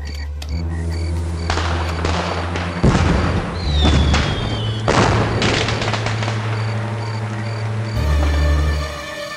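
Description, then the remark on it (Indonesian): Fireworks burst in a rapid series of loud booms and crackles, with a brief whistling streak partway through, all over a steady background music bed. “Irwan langsung berlari menyusul teman-temannya yang akan melihat kembang api.”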